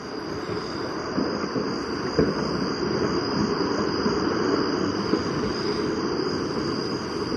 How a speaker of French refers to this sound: au plus proche que s'écoutent les volcans, comme dans cet autre enregistrement de Fernand Deroussen, réalisé cette fois sur le volcan Arenal du Costa Rica, où se mêlent des craquements de blocs de lave et des cliquettements de grillons nocturnes.